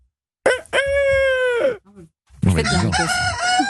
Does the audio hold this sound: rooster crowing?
yes